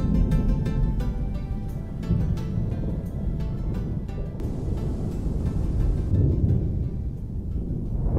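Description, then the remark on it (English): A deep, continuous rumble of thunder rolls on throughout, heavy in the low end with scattered crackles, like a stormy sky with rising wind and no voices. “There's a dark thunderstorm in the air, and the wind is rising as we leave the gate of Villa Kellermann together.”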